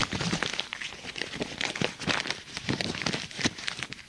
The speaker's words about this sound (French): Prend une feuille et la froisse.